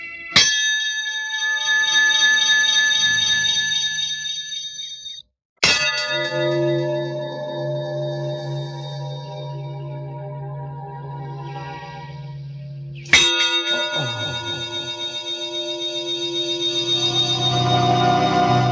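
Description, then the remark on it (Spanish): An enormous bell is struck three times with full force using a heavy iron mallet, each sharp clang blooming into a long, loud, shimmering resonance that rings on until the next blow. “Y el corpulento gato agarra un mazo de hierro para golpear la campana con toda su fuerza.”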